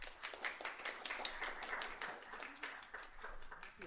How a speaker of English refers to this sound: Please join me in giving a round of applause to Chair Dankworth and Vice Chair Roach